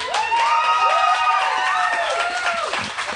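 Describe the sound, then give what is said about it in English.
Scattered, thin clapping from an audience, mixed with a few rising and falling whoops and cheering voices, holding at a steady moderate level for about three seconds. “It's a sparse applause for that.”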